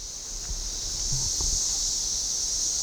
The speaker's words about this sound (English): 13 and 17-year cicadas emerged at the same time in central Illinois.